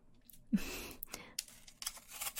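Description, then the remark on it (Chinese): A single soft, rasping snore from a sleeping woman, a low throaty rumble trailing into a breathy rush, followed by faint clicks and rustling. “不过阿姨睡觉怎么还打呼噜，睡得这么死？”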